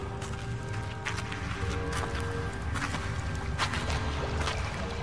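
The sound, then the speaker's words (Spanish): Water from a spring beside a rock runs in a steady, unbroken trickle, with faint splashes and drips rising now and then above the constant wash; no voices are heard. “Mira, un manantial. Aquí, junto a esa roca.”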